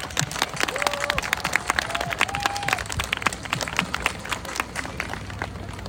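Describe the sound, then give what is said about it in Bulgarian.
A crowd applauds steadily for several seconds for all the Bulgarian children present at a May 24 celebration in the heart of America. Dense overlapping claps form a continuous patter, with a couple of brief high whoops or whistles rising above it early on. “Аплодисменти за всички български деца, които са днес сред нас.”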